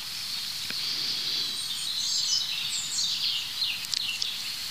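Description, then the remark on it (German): A European robin sings a thin, high, warbling song of varied trills and sliding phrases over a steady hiss, moderately quiet, with no voices. “Das heißt fast, ich kann mich nicht satt hören an diesem Gesang. Und dazu ist das einfach ein super spannender Vogel, das Rotkehlchen.”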